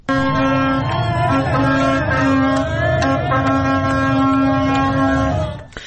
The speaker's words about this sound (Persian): خب در خیابون‌ها تصاویری که هستش، مردم چراغ اتومبیل‌ها رو روشن کردن، بوق می‌زنن، شادی می‌کنن، می‌رقصن و همونطور که تو گفتی شیرینی پخش می‌کنن.